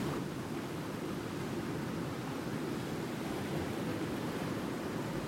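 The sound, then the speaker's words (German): A steady, dense roar of wind and surging ocean surf fills the scene without pause, the waves blending into one continuous wash rather than distinct separate crashes. No voices are heard. “Seine Stimme erweckte Vertrauen, trotz dem Lärmen von Wind und Wellen, und seine Ruhe teilte sich den anderen mit.”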